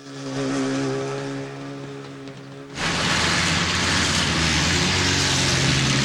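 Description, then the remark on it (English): A small boat motor on Bond's punt on a river drones with a steady, tonal hum, then abruptly shifts into a louder, rougher rushing roar that continues to the end as the engine slows down. No one speaks. “The engine on Bond's punt slows down.”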